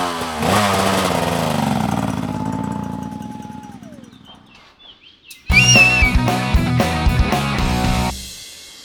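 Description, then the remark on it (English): A motorcycle engine revs with a rising whine, then fades as it pulls away to catch up with competitors in a long-distance marathon; afterward birds chirp over a louder, busy stretch of noise. “I'm gonna have to jump on a motorcycle to catch up with the competitors.”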